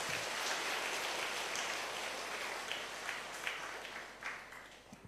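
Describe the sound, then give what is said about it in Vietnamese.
An audience at a Buddhist talk bursts into sustained applause, a dense wash of many hands clapping that stays steady, then gradually thins out with a few scattered claps toward the end. “Nếu quý vị thấy điều đó là rất cần thiết thì hãy dâng cao một tràng vỗ tay thật lớn.”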